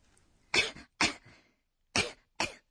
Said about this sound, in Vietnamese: Đây là ho húng hắng có phải không ạ? Vâng, từ để diễn tả điều này là Cong cong. Các bạn nghe lại nhé. Cong cong.